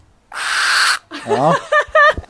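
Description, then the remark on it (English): A peregrine falcon named Minnie screeches loudly: one long, harsh rasping cry, then a quick run of shorter, whining calls that rise and fall, with no talking. “And the third is a peregrine falcon, the fastest creature on the planet. So, Minnie, this screeching banshee, as you can hear.”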